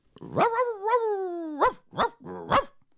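A dog lets out a long, drawn-out whining yelp, then three short, sharp barks in quick succession, fairly loud with no one talking.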